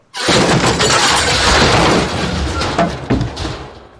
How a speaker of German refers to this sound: Ich stürze auf den Flur, wo ich gerade einen Teil der Wand einstürzen sehe, ungefähr so groß wie eine Tür.